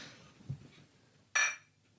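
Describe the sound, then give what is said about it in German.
Two glass beer bottles clink together once in a bright, ringing toast, after a soft low knock; the chime lingers briefly before fading into quiet. “Ich würde sagen, wir stoßen erstmal an und dann den genehmigen wir uns einen Schluck.”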